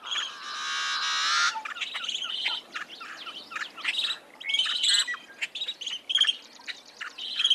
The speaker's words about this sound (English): A yellow-headed blackbird song.